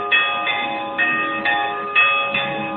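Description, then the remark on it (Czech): Church bells that have rung for 900 years ring out in a steady, overlapping peal, with strikes roughly every half second and long shimmering tones sustaining between them, loud with no voices. “Evo, zvoni ova zvona, zvone ovdje.”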